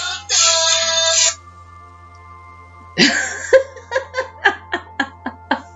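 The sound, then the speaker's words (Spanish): A mobile phone ringtone sounds: a bright, buzzy electronic tone for about a second, then after a pause a run of short, evenly spaced beeping pulses that fade out. “Los móviles hay que apagarlos cuando se empieza en el cole.”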